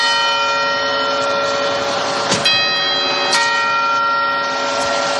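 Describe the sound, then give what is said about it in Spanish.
A large clock tower bell tolls slowly, striking the hour after the quarter chimes, with two distinct strikes about a second apart over a long, ringing hum of overtones that lingers between them. No voices are heard. “Primero han sido los cuartos y ahora las campanadas.”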